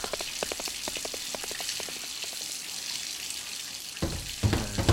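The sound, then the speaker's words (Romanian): Water runs steadily from a tap, a bright hissing stream with scattered drips and splashes, growing louder and more turbulent toward the end as it hits the sink. “Închide apa aia odată, închide-o!”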